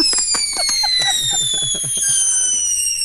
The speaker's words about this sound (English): Here goes the Piccolo Pete.